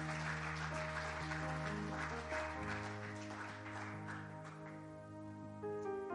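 An audience at New Life Apostolic in Kendallville claps steadily in a dense, sustained burst, clapping their hands to God, loud at first and thinning slightly toward the end, while held organ-like chords ring underneath throughout.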